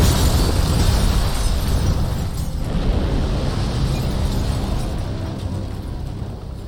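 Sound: large explosion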